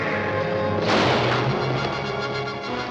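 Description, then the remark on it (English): A single loud gunshot, a misfire as a man holding a gun is tackled outside a cabin, cracks out about a second in, its broad burst fading over a moment against a steady droning backdrop. No one speaks. “At the sound of the gunshot, the posse leap into action.”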